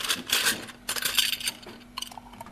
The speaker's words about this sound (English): So we're just capping the bottles.